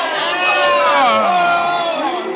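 A boxing arena crowd shouts and roars in a dense, steady wall of overlapping voices, loud throughout, with individual yells rising and falling in pitch above the din, as a boxer lies knocked down on the canvas during the count.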